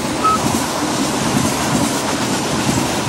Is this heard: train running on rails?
yes